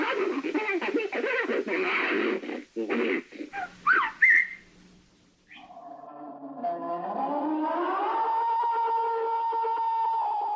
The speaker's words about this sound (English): Grunts, whistles, snarls, chirps, howls. Almost everyone I talk to reports hearing strange sounds in the woods. I've heard vocalizations that I couldn't peg.